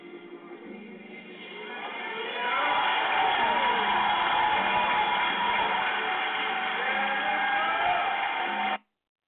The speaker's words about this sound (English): Now, the poor fools, the poor souls who gave the gold, they're screaming and shouting. They're screaming, they're excited. They got conned.